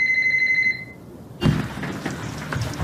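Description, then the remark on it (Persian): A telephone rings with a bright, steady electronic tone for under a second, then cuts off; after a short pause a loud burst of rustling, clattering noise follows and continues. “بس تلفن رو جواب نده ها.”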